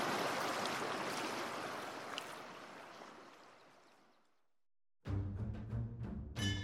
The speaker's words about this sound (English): at any hour of every day, I can hear the river meandering downstream from the mountains.